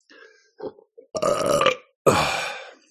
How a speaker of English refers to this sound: Again, belching in this context is not considered rude. It's just shamanism. It's all energy release.